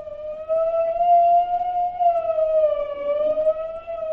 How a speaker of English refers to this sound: Party liners, that's the warning siren.